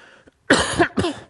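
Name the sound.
cough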